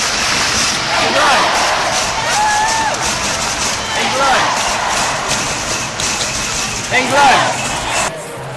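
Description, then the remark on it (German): A sold-out crowd at Wembley Stadium roars at the 2022 Women's European Championship final, won by England's Lionesses against Germany, in a dense, continuous wash of cheering and voices, with occasional louder swells and a few higher shouts rising above the steady noise. “Und so hat sich das im ausverkauften Stadion angehört.”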